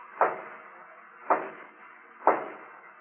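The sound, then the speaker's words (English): Three slow, evenly spaced knocks as a guard raps on the wooden door of a hacienda, each a dull thud with a short ring-out, moderately loud, with no voices. “one of the guards suddenly raps on the door.”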